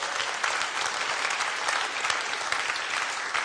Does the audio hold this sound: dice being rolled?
no